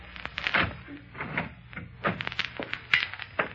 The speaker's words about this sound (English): Okay, you open the door. I'll reach in for the light.